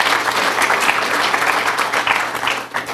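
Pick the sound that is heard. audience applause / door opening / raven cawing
audience applause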